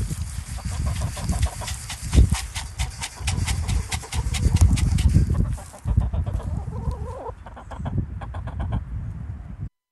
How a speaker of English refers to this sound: you sent us some audio of your own backyard chickens. Let's take a listen to that.